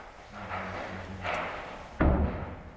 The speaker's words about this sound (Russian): Взрывается склад боеприпасов украинской армии, которая находилась на территории Донецкого аэропорта.